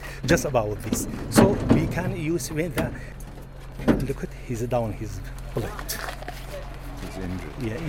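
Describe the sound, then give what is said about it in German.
A grey, dented delivery van's engine hums steadily as it pulls up on a road outside Mosul, and its door clunks and rattles as it is yanked open with a few sharp knocks, while several voices talk urgently over the noise. “Ein grauer, verbeulter Lieferwagen fährt vor. Die Tür wird aufgerissen.”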